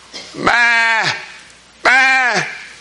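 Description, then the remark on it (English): Two drawn-out goat-like bleats, each about half a second, separated by a brief pause, loud; a human voice appears to be imitating the goat's call. “Can you see it, little goat? Meh.”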